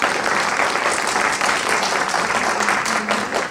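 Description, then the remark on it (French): Sustained audience applause for a contestant fills the whole stretch, a dense, steady crackle of many hands clapping at once, loud, with a faint murmur of voices underneath. “nous vous remercions et nous vous applaudissons.”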